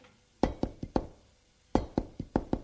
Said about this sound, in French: On a frappé à la porte.